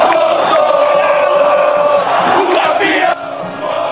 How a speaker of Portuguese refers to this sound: você tá ouvindo a torcida do São Paulo? Tá empolgada a torcida tricolor.